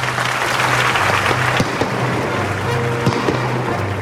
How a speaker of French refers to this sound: Avant de m'incliner, j'ai vu ses yeux briller. Va-t-il applaudir? C'est fait. Il m'a fait signe d'approcher.